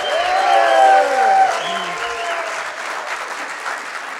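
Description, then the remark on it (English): A crowd bursts into loud cheering and whoops, with sustained applause beneath, the shouting peaking early then settling into steady clapping from a large audience, a huge cheer opening the NAMM Foundation's Support Music Coalition meeting, webcast around the country. “So let's give a huge cheer to the start of our coalition meeting to say hello.”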